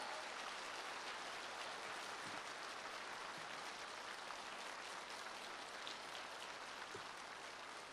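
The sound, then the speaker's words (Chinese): Sustained applause from a large audience welcoming Lu Junhong to read totems, a dense, steady wash of clapping that stays loud and even for the whole stretch with no voices heard. “现在让我们用最热烈的掌声恭请尊敬的卢军宏台长为我们慈悲看图腾。”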